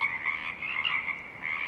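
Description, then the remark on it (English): A dense chorus of Pacific chorus frogs calling continuously in Tektaxan Marsh on Saturna Island, British Columbia, overlapping trills that swell and fade above the steady hiss of a stiff breeze, with no voices. “The song of the Pacific chorus frogs rises and falls above a stiff breeze.”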